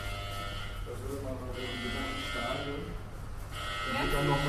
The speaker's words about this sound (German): Genau, das haben wir gerade gehört. Das ist jetzt der Notfallalarm gewesen am Behinderten-WC.